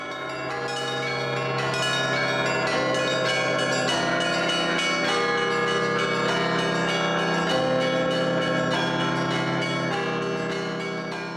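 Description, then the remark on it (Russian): Church bells peal continuously and loudly, several bells struck in quick overlapping succession so their rich, ringing tones blend into a dense, sustained clangor with no voices; traditional Russian bell ringing at the Bolshoi Zlatoust church in Yekaterinburg, in the Urals. “Древнее искусство колокольного звона возвращается.”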